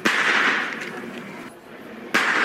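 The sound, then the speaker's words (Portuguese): Sharp firecracker bangs burst out at the start and again near the end, each followed by a lingering wash of noisy, crackling outdoor sound: small festa junina-style firecrackers set off by students during a street protest at Largo de São Francisco. “Os estudantes levaram bombinhas de fogo de artifícios, dessas de festa junina.”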